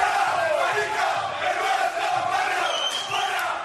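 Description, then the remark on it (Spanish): A large crowd shouting insults at a weekend street march with neo-Nazi symbols in the Chueca neighbourhood of Madrid, Spain, a dense, continuous roar of many raised voices that stays loud and steady without a break. “Estos eran los gritos e insultos que se podían oír en este barrio madrileño tan castizo este fin de semana en una marcha con símbolos neonazis.”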